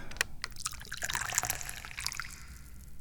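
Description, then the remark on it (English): Tea is poured into a cup in a steady, splashy stream with little gurgles and drips, fairly soft, tapering off toward the end with no talking. “And usually the first thing I do is pour some tea.”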